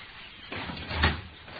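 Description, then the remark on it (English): Someone at glass French windows works at them from outside: a soft, muffled rattle and slide that swells to one brief clunk, then settles, with no one talking. “Somebody at the French windows.”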